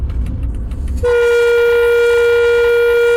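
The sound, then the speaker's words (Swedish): A train locomotive's horn, sounded by the driver, gives one long, loud, steady blast that starts abruptly after a second of low engine rumble and holds its rich, brassy pitch to the end. “Är det du som tutar?”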